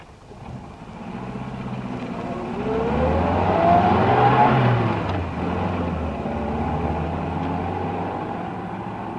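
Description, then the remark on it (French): A car engine revs and accelerates, its pitch rising steadily over several seconds before settling into a sustained drone as the vehicle pulls away. “Allez, montez dans ma voiture, allez!”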